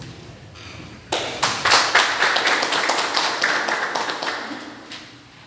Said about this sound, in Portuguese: declaro aberta a presente sessão, convido a todos para saudar a promoção, uma salva de palmas e logo em seguida peço ao secretário que faça a leitura de um texto.